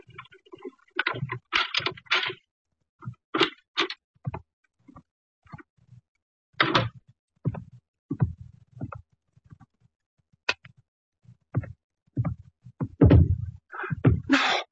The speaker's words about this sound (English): Then we heard muffled footsteps coming down the hall and a key inserted in the lock of the apartment door.